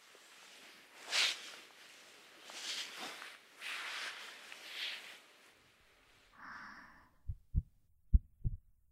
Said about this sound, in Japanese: 私の心臓の音聞こえますか？ドクンドクンドクン、同じリズムで脈を打ってる私の心を。胸にギューって顔を寄せて、この音に耳を傾けてリラックスして